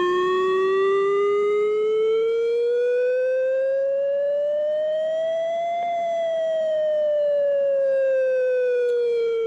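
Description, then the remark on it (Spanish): A loud chemical emergency warning siren, to be heard in Hernani, Múzquiz, Abanto, Ciérvena, Santurchi and Lantarón, wails steadily, its tone slowly rising for several seconds and then gradually falling, with no voices present. “Bueno, pues es la sirena de emergencias químicas.”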